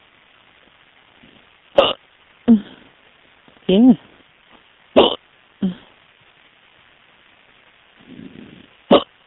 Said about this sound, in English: They all want to hear my hiccups.